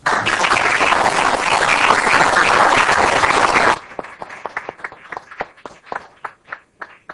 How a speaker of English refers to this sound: I'd like to say that let's all give him an applause.